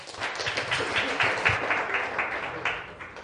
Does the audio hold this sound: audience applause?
yes